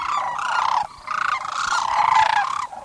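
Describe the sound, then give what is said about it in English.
Loud, rolling bugling calls from a flock of sandhill cranes stopping to rest and refuel at the Gustavus Forelands Preserve on migration, overlapping continuously with only a brief dip, with no voices. “Every fall and spring, the cranes stop at the Gustavus Forelands Preserve to rest and refuel.”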